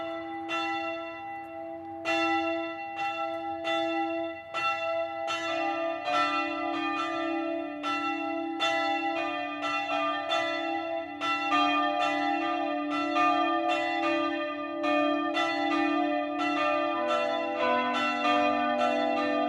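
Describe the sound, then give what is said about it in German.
Church bells of the Evangelical Lutheran Erlöserkirche in Nittenau, Upper Palatinate, Germany, ring steadily at noon, several bells striking in an overlapping rhythm with long humming tones sustaining between strikes, loud and continuous throughout with no voices. “Das Mittagsläuten kommt heute von der evangelisch-lutherischen Erlöserkirche im oberpfälzischen Nittenau.”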